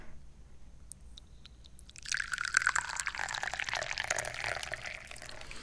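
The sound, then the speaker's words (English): A few light taps and clinks, then a steady stream of Gingin May tea being poured into a cup, splashing and gurgling for several seconds with no talking. “Oh, I think it's time to pour some tea.”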